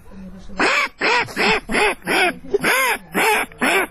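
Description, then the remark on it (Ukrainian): A person's voice imitates a mother duck, giving about eight loud, nasal quacks in a steady, quick rhythm, with no other sounds around. “А мама утка.”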